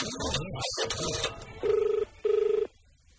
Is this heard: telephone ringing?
yes